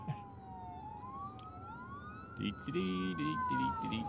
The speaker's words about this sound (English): And, whoa, I have an ambulance going by. I'm stopping here.